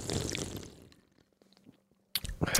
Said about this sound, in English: One slurp.